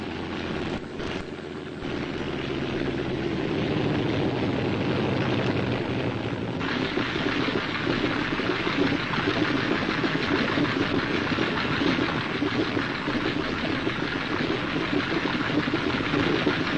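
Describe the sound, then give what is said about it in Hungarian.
A propeller aircraft engine drones steadily and loudly at Le Bourget airfield, a continuous rumbling roar that builds in the first seconds and then holds without pause. “Du Bourget repülőtér.”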